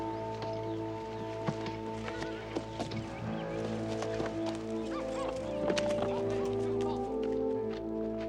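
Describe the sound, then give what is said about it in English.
Horse hooves clip-clop in an irregular rhythm as a horse is ridden by a man with a woman seated behind him, with a steady tonal background of music underneath; a faint fowl-like cluck may also be present. “He takes her by the hand and walks toward his horse. He mounts and pulls her up behind him.”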